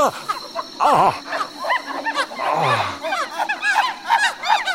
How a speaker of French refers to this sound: Ça, par exemple. Des singes hurleurs. C'est à croire qu'ils se paient ma tête, ces bougres de zouaves d'anthropopithèque.